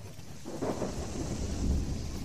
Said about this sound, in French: Une violente tempête se déchaîna subitement, Une pluie torrentielle fondit sur les voyageurs et remplit d'eau les ornières du chemin.